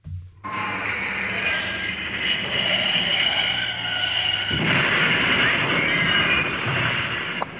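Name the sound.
oncoming tractor sound effect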